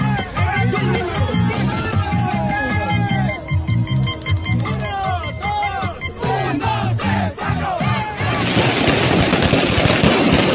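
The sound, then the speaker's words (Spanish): Firecrackers explode outdoors at a party outside the hotel of Ecuador's team, in rapid, loud volleys, crackling like a string of pops amid a shouting crowd, then build into a dense, continuous roar of bangs and hiss. “Plano, les tronaron cohetes y la...”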